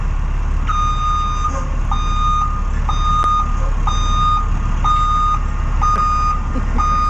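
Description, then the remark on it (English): A sound effect of the WAAF summer tour bus backing up, its reversing alarm giving about six loud, evenly spaced electronic beeps over a constant low engine rumble. “And so I had Stiz Grimey get a sound effect for the tour bus.”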